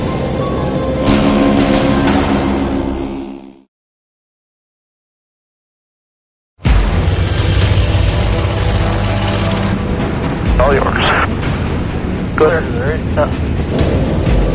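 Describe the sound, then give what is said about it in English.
Loud, steady roar of a C-46 airliner's piston engines at takeoff power. It cuts out into a few seconds of silence, then resumes just as loud, with voices talking over it. “Now, even if an engine fails, takeoff must continue to V2. Liftoff speed.”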